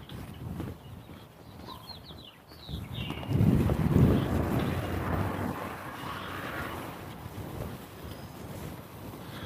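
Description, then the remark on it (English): A trash truck's engine rumbles low and steady, swelling louder partway through and then holding, with a few faint bird chirps early on and no voices. “I hear a trash truck.”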